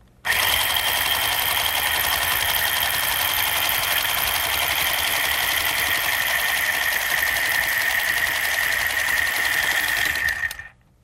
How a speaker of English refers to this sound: Sewed together. Somebody had to have been very clever to invent a sewing machine.